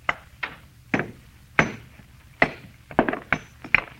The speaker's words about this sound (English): All I'm going to do is try and break it along this fissure. See, I had a hammer. Sure. Yeah. What if the stone break? Almost solid metal. I'll try.